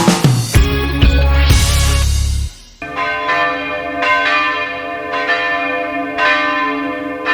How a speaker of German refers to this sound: Ja, so klingen die Glocken der St. Stephan-Kirche in Berg am Laim hier bei uns in München. Übrigens die einzigen Glocken in der Stadt, die noch von Hand geläutet werden.